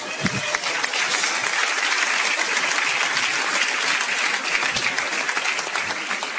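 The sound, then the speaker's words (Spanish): A crowd applauds steadily and loudly for several seconds for a pastor's wife, a dense wash of many hands clapping at once with no pauses and no voices standing out. “Un aplauso a la pastora.”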